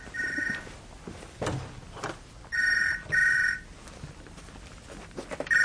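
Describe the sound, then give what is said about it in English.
A telephone rings with a bright, trilling bell in short bursts: one ring, a pause, then a quick double ring, with quiet gaps between and no one speaking. “Saved by the bell.”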